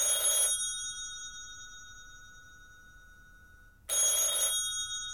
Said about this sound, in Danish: Jo, hvor telefonen i antikvitetshandlen må have ringet non-stop.